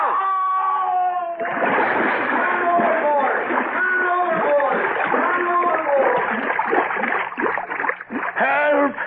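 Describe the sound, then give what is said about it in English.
A man falls overboard from a boat: a sustained call breaks off into a sudden heavy splash, then water churns and thrashes steadily while several voices shout loudly over it. “I fell in. Help me.”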